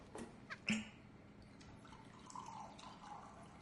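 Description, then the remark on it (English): Tequila and vodka being poured into a glass, opening with a couple of sharp glassy clinks and then a soft, steady trickle of liquid. It's quiet, with no voices. “pours tequila and vodka into a glass.”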